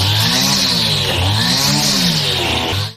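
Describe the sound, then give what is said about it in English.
A human voice mimics a weed eater, a continuous buzzing, wavering drone held loud and steady for about three seconds, with the pitch bobbing as if the motor revs and idles. “That was a weed eater.”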